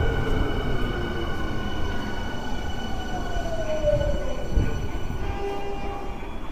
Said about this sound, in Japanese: お待たせいたしました。元町中華街行き最終電車が到着です。